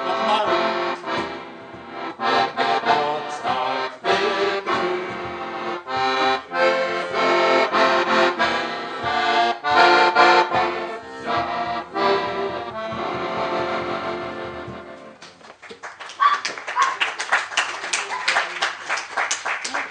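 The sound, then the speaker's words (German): An accordion plays a lively, rhythmic serenade with steady chords and melody for about fifteen seconds to open the 75th anniversary celebration of a local chapter (Ortsverband), then the music stops and a burst of applause follows. “Zum Auftakt begeisterte musikalisch Wolfgang Ott, Delta Lima 3 Whisky Echo Romeo, mit seinem Akkordeon und diesem passenden Ständchen.”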